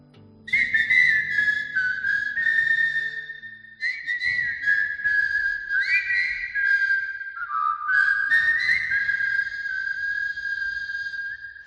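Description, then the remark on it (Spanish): A person whistles a melody for about eleven seconds, clear, with sustained notes gliding between pitches and brief breaks between phrases, no talking. “El tiempo que tú le dedicas a preocuparte por tu coche, nosotros lo dedicamos a dejar la mente en blanco y silbar, que es sinónimo de felicidad.”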